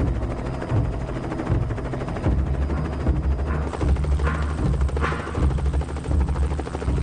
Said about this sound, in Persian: یه گوشی بزرگ روی گوشاش گذاشته بود تا صدای هلیکوپتر اذیتش نکنه.